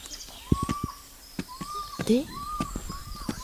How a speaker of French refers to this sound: Des autruches. Et nous avons aussi des autruches. Quelle biodiversité incroyable. Voilà pour cette captation sonore en immersion au centre de découverte du son de Cavan dans les Côtes d'Armor,